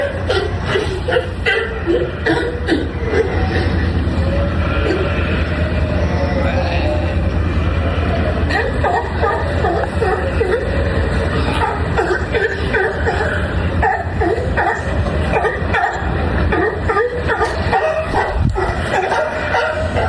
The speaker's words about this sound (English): And speaking of sea lions, this is what it sounded like outside of my hotel 24 hours a day.